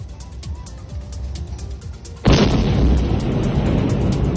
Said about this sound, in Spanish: Lo que hemos escuchado es la explosión de un dron derribado por el ejército en la capital rusa. Según TASS, la agencia de noticias del país, el gobierno ha decidido cerrar los tres principales aeropuertos de Moscú por un ataque ucraniano con drones.